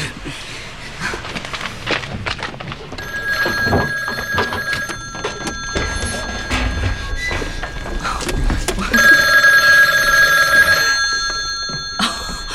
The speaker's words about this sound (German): Oh, ich muss ans Telefon.